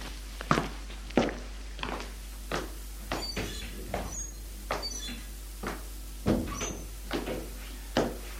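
Steady footsteps thud across a floor at an even walking pace as a man enters his parents' home and goes to his room, with a louder knock of a door partway through, and then the steps carry on. No one speaks.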